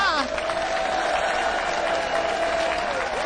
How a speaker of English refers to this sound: How about that applause from the wobble? I was asking for it. I was begging for milking it.